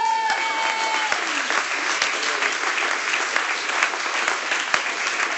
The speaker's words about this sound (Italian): L'applauso fatelo più forte, perché è per il Re dei Re.